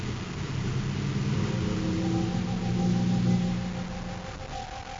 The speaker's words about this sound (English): The surface car, designed for rough terrain, moves easily across the desert, through rocky arroyos and deep sand.